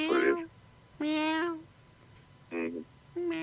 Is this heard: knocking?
no